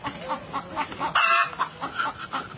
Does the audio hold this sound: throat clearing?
no